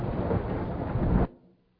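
A loud crack of thunder rumbles with heavy low-end force for over a second, then cuts off sharply into a faint fading tail. No one speaks.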